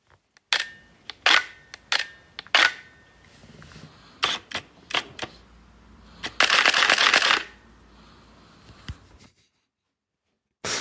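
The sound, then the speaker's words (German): Several sharp mechanical camera clicks spaced apart, including two depth-of-field previews, then a fast burst of continuous shutter firing in burst mode lasting about a second, followed by one last click. No voices. “ich sag nicht, was es war, aber ich sage, was ihr da gleich hören werdet, nämlich zweimal eine Blendenvorschau und dann Serienbilder von einer Kamera.”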